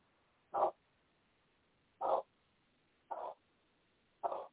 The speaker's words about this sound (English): And, okay, the dog's, now I thought the dog would stop barking, but he's barking.